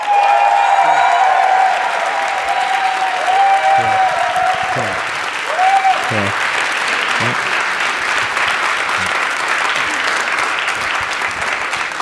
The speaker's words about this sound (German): Jetzt euer Applaus. Ja, ich habe jetzt einfach jetzt hier. Ich weiß nicht, wie hoch es noch geht.